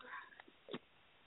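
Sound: dog making noise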